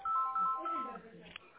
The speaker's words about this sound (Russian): Ой, простите, мне директор звонит. Сейчас, ага. Подождите.